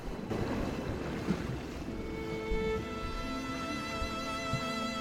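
A small rowing boat glides slowly across the calm open sea, moving away, with a steady wash of gentle waves and soft wind filling the background and no voices.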